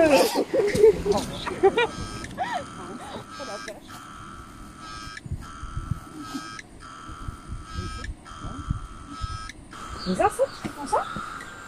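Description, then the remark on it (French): Cicadas buzz steadily at the entrance to a primary forest in a loud, high-pitched drone that pulses with brief regular breaks, while voices murmur softly underneath. “Les cigales? Les cigales, voilà. J'ai elles oublié. Font ce bruit-là?”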